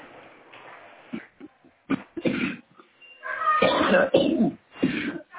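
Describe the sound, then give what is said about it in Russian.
Several short, rough coughs come in uneven bursts, followed by longer, louder strained vocal sounds; no clear speech. “Что, кашляешь?”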